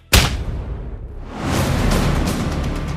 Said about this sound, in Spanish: ¿Pero por qué le has pegado un puñetazo?